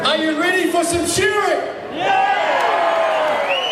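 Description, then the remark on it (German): A large stadium crowd at a sheep-shearing competition cheers and whoops continuously, many voices rising and falling together in a dense, loud roar, with a brief dip before the cheering swells again. “Das Stadion jubelt.”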